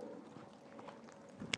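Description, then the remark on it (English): Microphone handling noise as someone rearranges a slipping microphone: a low, muffled rumble of fumbling and rubbing, ending in a single sharp, loud click at the mic. “Sorry for the clicking, I'm just trying to rearrange the microphone slightly as it keeps slipping.”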